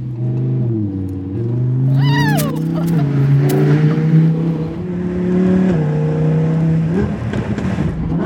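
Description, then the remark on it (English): The engine of Nicolas Cage's gold sports car, not a Ferrari, drones steadily, its pitch stepping up and down as it revs, with a few sharp crackling exhaust pops in the middle. “Snap, crackle, pop, right?”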